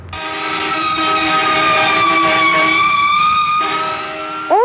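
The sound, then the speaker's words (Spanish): A loud car horn blares in one long, unbroken blast for several seconds, a steady, brassy tone that stays harsh throughout before a brief upward sweep at the very end, on a busy city-centre street as a pedestrian steps off the kerb at a corner to cross. No one speaks. “Claxon tan fuerte que casi me revientan los oídos.”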